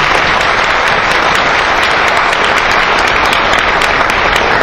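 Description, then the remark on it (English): Sustained audience applause for baseball history and analytics pioneer Dick Kramer, a dense, steady wash of many hands clapping at an even loudness throughout, with no voices standing out. “I can ask for applause Dick Kramer”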